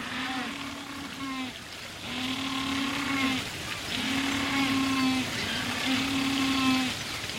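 Humboldt penguins give four drawn-out, braying calls in a steady series, each a nasal, donkey-like honk rich in harmonics, over a constant hiss of rushing water or wind. Recording from the Internet Bird Collection.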